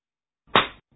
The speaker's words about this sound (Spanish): Sonó fuertísimo mi cachetada.